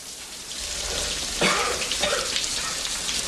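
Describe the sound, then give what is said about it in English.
Shower water runs in a steady, even hiss as Rocky stands under the shower with his head bowed and coughs gently, with a brief, slightly louder burst of sound breaking through about halfway. “Later, Rocky stands under the shower, his head bowed.”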